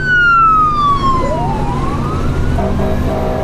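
A loud fire truck siren wails past close by, its pitch sweeping and dropping as it goes, over a steady rumble of engine and road noise.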